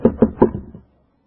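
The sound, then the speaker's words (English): A knock on a door: five dull, hollow raps in quick succession, the first three firm and the last two softer, followed by silence. “So she hears a knock, as you often hear a knock.”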